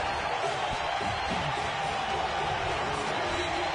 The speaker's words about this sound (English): You're hearing the crowd ambiance. You're hearing what radio listeners heard who were listening to the White Sox broadcast.